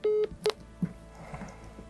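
Two electronic telephone dialing tones beep in quick succession as a call is placed to a man, the first longer and the second short, followed by a soft thud and a faint, low background murmur.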